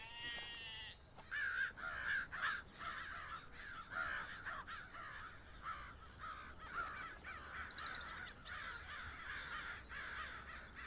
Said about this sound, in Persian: کلاغا خیلی سر و صدا میکنن. کاش پدرت همه رو کشته بود. سعی کرد.